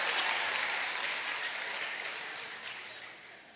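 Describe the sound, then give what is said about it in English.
An audience claps in a dense, steady round of applause for a few seconds, the many overlapping hand claps blending into a bright wash that gradually eases off toward the end. “No applause or anything.”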